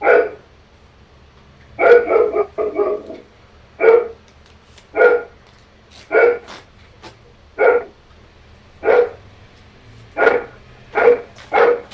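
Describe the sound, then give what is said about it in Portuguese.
A pet female dog barks repeatedly, about a dozen sharp, mid-pitched barks in an uneven rhythm, a few bunched close together, with no one talking over them. “Minha cachorra.”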